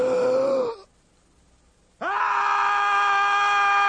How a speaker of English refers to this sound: I must do something. I'll scream. That's it. I'll scream out with all my life. I'll scream.